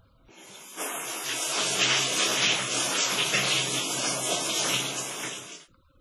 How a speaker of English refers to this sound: No. She isn't listening to music, she's having a shower.